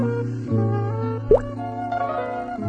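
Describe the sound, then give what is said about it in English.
A single bright water drip from a leak falls on Pipsqueak's head as he lies in bed, landing with a quick plop that bends upward in pitch, heard over steady, sustained musical tones humming underneath. “Something wet fell on his head. Drip, drop, plip, plop.”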